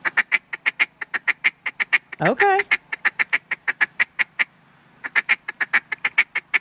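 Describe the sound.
Rapid, loud duck-call quacks repeat in a steady staccato rhythm, broken briefly by a single spoken word before the rhythmic quacking resumes, pauses a moment, then continues.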